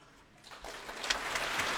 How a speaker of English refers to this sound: And applause as the players rise to their feet for the entry of Valery Gergiev, rejoining the National Youth Orchestra of the United States of America for this Proms performance of Shostakovich's Symphony No. 10.